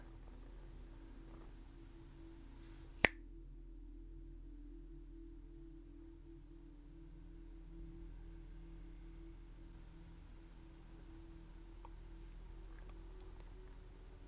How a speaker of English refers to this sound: Now, when I snap my fingers, say,